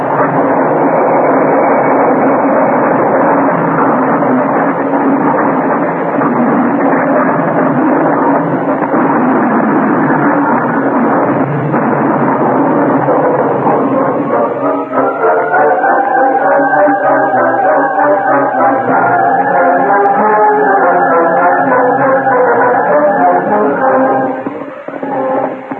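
A runaway train crashing and wrecking: a loud, continuous roaring rumble, turning into shrill, wavering metallic screeching tones over the rumble in the second half. No one speaks.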